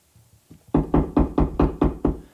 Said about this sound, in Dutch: Waar komt dat kloppen vandaan?